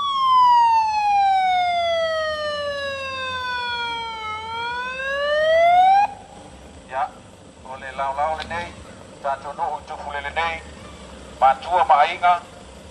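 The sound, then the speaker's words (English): A mobile vaccination unit's siren wails, sliding down and then back up in pitch, loud and steady for several seconds, before a voice over a loudspeaker makes an announcement in short bursts. The unit is going door to door in Samoa during a mass vaccination drive, using the loudspeaker to let people inside their homes know it has arrived. “Well, those are the sounds of one of the mobile units going door to door there in Samoa.”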